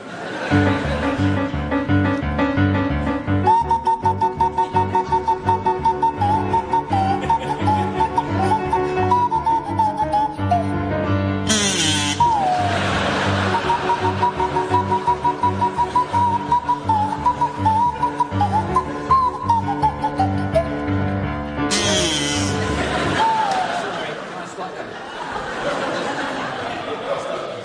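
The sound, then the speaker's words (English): A buzzy kazoo and a sliding swanee whistle play a brisk, rhythmic tune together over a steady backing, loud, with some laughter breaking through before it winds down. “provide us with a rendition of the Sabre Dance by Kachaturian to feature Barry Cry on the kazoo and Graham Garden on the Swanee whistle”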